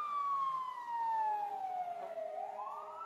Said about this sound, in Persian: توی جاده ماشین ما در حالی که آژیر می‌کشید و چراغ‌های قرمز رویش می‌چرخید با سرعت حرکت می‌کرد